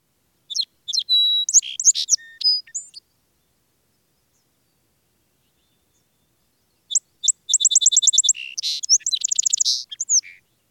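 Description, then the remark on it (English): A song sparrow sings two separate phrases on a wooded hillside, each opening with a few sharp introductory notes and breaking into a rapid buzzy trill and jumbled warbling, clear with silence between them. “And the song sparrow's melody.”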